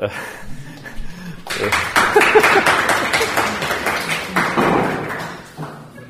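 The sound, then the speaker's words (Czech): After a brief quiet moment, an audience breaks into steady applause, many hands clapping in a dense, loud burst for about four seconds before it quickly dies away. “To chce potlesk.”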